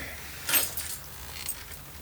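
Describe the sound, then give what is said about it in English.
A set of keys gives a brief, soft metallic jingle as it is lifted, followed by a fainter second rattle a moment later, with no voices around it. “I'll grab the keys.”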